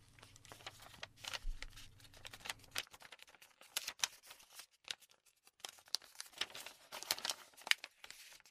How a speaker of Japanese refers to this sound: 先生が渡した封筒、手元にある？ はい、あります。 うんうん。それじゃあ、それを開けてみて。セリフが書かれた紙が入ってるから。